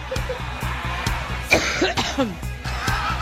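A coughing fit by Hillary Clinton on the campaign trail, several harsh coughs in quick succession, layered over a steady, driving rhythmic beat that keeps pulsing underneath.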